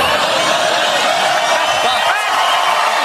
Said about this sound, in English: He just insulted everyone in his audience and they clap like seals. They clap like seals.